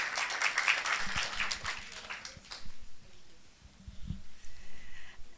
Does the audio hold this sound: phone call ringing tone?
no